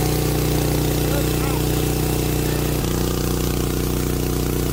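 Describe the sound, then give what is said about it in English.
A steady, low idle from an engine fitted to a Tesla, running to charge its battery, hums continuously and loudly, with strong harmonic bands and a slight shift in pitch partway through, as if the revs change briefly. “This engine's still running and it's charging”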